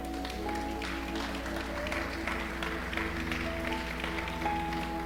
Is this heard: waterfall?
no